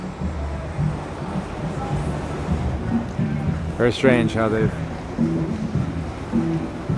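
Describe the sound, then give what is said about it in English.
A steady, rushing wash of breaking water from an artificial wave pool in the San Joaquin Valley fills the background while a man talks over it, with a brief louder voice cutting through midway; non-expert surfers are out in the water. “are out in the water, not expert surfers by any stretch, and they're running quite a different wave, and it looks like a different world than what we saw earlier.”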